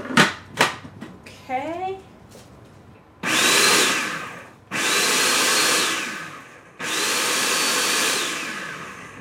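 A few sharp clicks and a brief rising whine, then a food processor chopping chilies with their stems removed in three loud, sustained whirring pulses, each running about two seconds with short pauses between.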